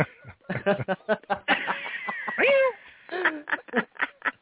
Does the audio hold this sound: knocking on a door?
no